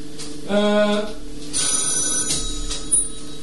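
A telephone rings with an incoming call in a few repeating bursts of bright electronic trilling, fairly loud and clear against quiet.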